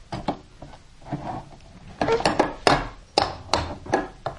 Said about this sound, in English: Here's the toy. Here's the ball. Can you bang with the hammer? Right on the ball, that's right. Bang! Bang, bang, bang.